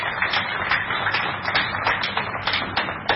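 An audience applauds the guests present for being with them, steadily for a few seconds, a dense patter of many hands clapping at once with sharper claps popping out here and there, no voices over it.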